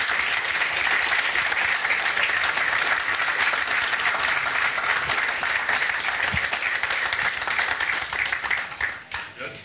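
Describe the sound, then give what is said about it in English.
Sustained applause from a large audience in Dublin as Gary McAllister is brought out, a dense steady wash of many hands clapping at once, holding loud for several seconds before starting to thin out near the end. “And I think it's time to bring out Gary McAllister now, if we want to give him a round of applause.”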